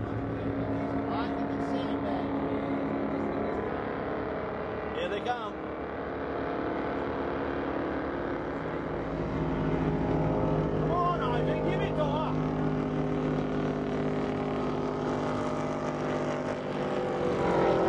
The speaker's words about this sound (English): She got squirrely on him. It's not every day you see lobster boats tip upward and leave a wake.